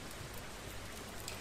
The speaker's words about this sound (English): Pouring rain.